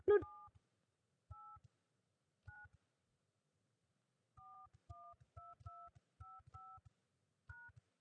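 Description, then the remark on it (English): Touch-tone keypad dialing on a phone conference system, entering a 10-digit account number: about ten short dual-pitched beeps, a few spaced apart and then a quicker irregular run of presses, clear and alone with no talking. “Please dial your 10-digit account number.”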